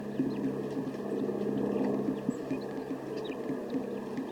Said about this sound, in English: Female is in the small dead pine or a small pine tree, and another female just came into the pine, and more males are coming into the dead tree. So the birds are continuing to approach, but they seem to be a little bit alarmed.